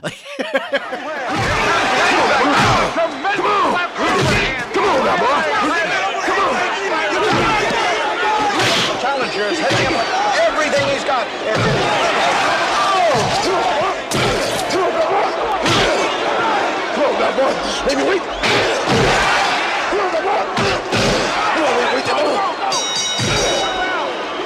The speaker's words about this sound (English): and this is one thing the Rocky movies are known for, especially the fourth movie, but the intensity of the punches in these movies, are like... They're like crazy video game punches. It's like every punch is an Indiana Jones punch.